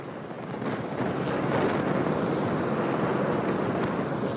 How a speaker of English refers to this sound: Again, a Customs and Border Protection helicopter showed up, sending a cloud of dust and debris flying over the protest.